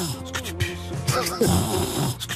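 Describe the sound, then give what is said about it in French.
A person imitates snoring with their voice, producing a few drawn-out, rumbling nasal snorts in a loose rhythm, fairly loud with no other sounds around. “Et je ronfle. Et vous ronflez. Et ça fait.”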